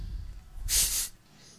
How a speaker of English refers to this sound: You listening to me breathing? You're like, yeah. Can't help it. I breathe deeply.